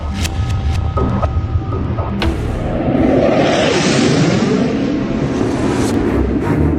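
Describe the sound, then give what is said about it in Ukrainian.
Heavy explosions from an air raid in Kharkiv, Ukraine, with an aircraft heard, roll in as deep booms, followed by a sustained rumbling roar that swells midway and lingers over a low background hum. “Лунають вибухи.”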